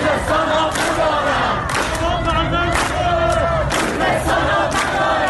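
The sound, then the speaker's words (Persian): A large protest crowd shouts together in loud, sustained waves of voices, with rising chant-like cries repeating every second or so over a dense roar, at a rally beside the City Theater wall at Vali-e Asr crossroads in Tehran, in solidarity with the people of Khuzestan, with slogans against the Islamic Republic. “فریادی که شنبه گذشته در اینجا تنین انداخت، کنار دیوار تئاتر شهر در 4 راه ولیعصر تهران، تجمع اعتراضی برای اعلام همبستگی با مردم خوزستان.”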